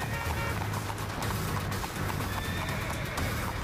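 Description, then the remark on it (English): A spooked horse whinnies loudly amid a steady clatter of hooves as traffic closes in and surrounds the horses at a green light, with a dense wash of traffic noise rumbling continuously underneath for the whole stretch. “With traffic closing in and surrounding the horses, they begin to get spooked.”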